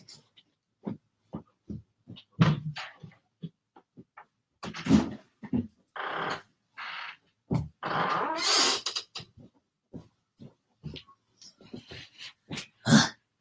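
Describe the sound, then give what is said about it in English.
A cat stuck in a bedroom claws at the door trying to get out, with irregular bursts of scratching and thumping that come in quick clusters and longer rasping scrapes, and no one speaks. “Cat got stuck in a room and tried to claw her way out.”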